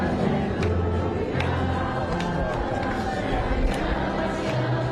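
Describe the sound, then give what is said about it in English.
A large crowd in Hostages Square, Tel Aviv, quietly sings a slow Alleluia together, their blended voices forming a steady, sustained wash of sound at an even level throughout, with no single voice standing out. “The crowd quietly singing Alleluia.”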